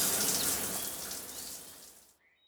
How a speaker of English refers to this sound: Every evening, he has a shower.